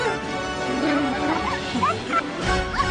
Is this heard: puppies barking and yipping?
yes